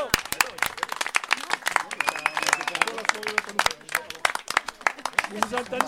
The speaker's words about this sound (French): Et bah qu'est-ce qui est beau, qu'est-ce qui est beau là, c'est que et bah on a deux équipes victorieuses, on peut les applaudir.